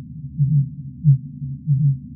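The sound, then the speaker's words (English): Three deep, low-pitched pulses repeat at a steady rhythm over a soft rumbling background, like slow muffled thumps. These are fin whale calls, with no voices present. “I would say the most vocal among the species were the fin whales.”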